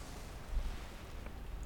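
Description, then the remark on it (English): A soft, steady wash of sea waves, blending into a low, breezy rumble with no distinct breaks or voices. “Sound of sea makes the sea feel close.”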